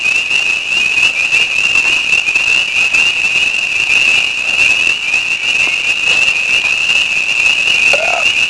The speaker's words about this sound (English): There's frogs.